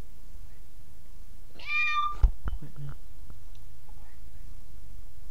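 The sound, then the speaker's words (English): A single short, clear cat meow, followed right after by a sharp thump and a few faint clicks, then quiet background hiss, with a microphone held in front of the cat. “Meow! Make a damn noise, you Can dog.”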